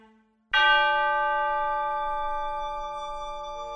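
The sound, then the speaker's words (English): A mantelpiece clock strikes the hour once with a bright, resonant clang, its rich ringing tones sustaining and fading slowly. A brief faint low hum precedes it, and no voices are heard. “The clock on the mantelpiece hammered out the hour, and when the last beat struck, it was as silent as dawn.”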